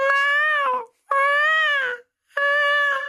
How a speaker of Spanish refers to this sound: ¿No has escuchado los gemidos de las gatitas, algunos gatos y gatas en las madrugadas? Que sí, pareciera otra cosa.